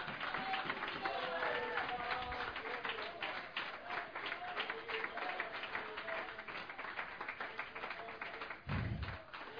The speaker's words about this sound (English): Come on and give the Lord the best hand clap of praise we can give.